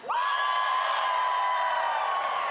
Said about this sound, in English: So if you are an Uptown person, I want you to cheer really loud because we can't let Oakley beat us right now. Ready, go.